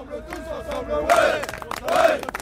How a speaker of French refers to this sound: Et là, je crois qu'on peut les applaudir.